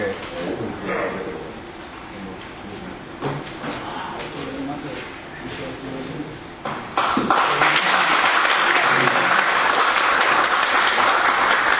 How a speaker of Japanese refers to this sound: はい、皆様、最後までありがとうございました。ここから拍手をお願いします。